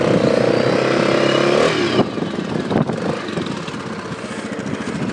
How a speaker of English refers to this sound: So I'm on the quad at the minute, so I'm just going to move it along a bit.